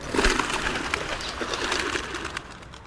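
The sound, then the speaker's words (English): A startled flock of rock pigeons bursts into flight, a dense, rushing clatter of many wings beating at once, steady for a few seconds before easing slightly. “Something startles the flock of rock pigeons, and again they burst into flight.”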